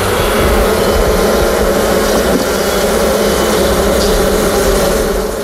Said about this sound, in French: On va casser le petit joint qu'elles ont fait à la propolis et puis mettre un peu de fumée pour leur montrer qu'on existe. Et là, vous allez pouvoir avoir le fameux son des abeilles.